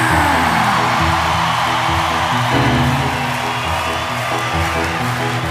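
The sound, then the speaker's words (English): A large crowd applauds and cheers loudly and steadily for Derek Jeter, a dense roar of clapping with scattered whoops, and a low musical tone hums underneath throughout. “Now we break applause meter with two words, Derek Jeter!”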